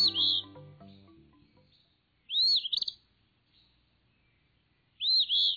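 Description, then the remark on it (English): An Eastern Phoebe, a flycatcher named for its song, sings two brisk, burry two-note phrases about three seconds apart, clear, after a brief bit of music fades out at the start. “This brisk whistle belongs to a bird named for its song, the Eastern Phoebe.”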